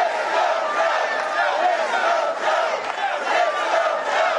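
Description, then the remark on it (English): A crowd of nearly 2,000 people in a room at the first major Biden-Harris campaign rally in Philadelphia chants "four more years" and "Let's Go Joe" in unison, a dense, steady roar of many voices that holds loud and unbroken throughout, with rhythmic swells in the chant. “Those in attendance appeared to be excited for Biden's candidacy, with chants of four more years and Let's Go Joe shouted in the room.”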